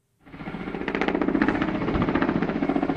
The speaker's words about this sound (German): Ein großer Hubschrauber fliegt über brennende Bäume und lässt 4000 Liter Wasser über den Flammen ab. Sommer für Sommer gehören solche Bilder in Portugal zum Alltag.